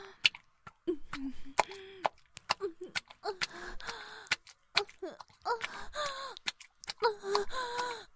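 Heavy, labored panting from a woman exerting herself by channelling inner energy, ragged breaths and sharp gasps mixed with drawn-out voiced moans, repeating in uneven bursts with short pauses and no speech.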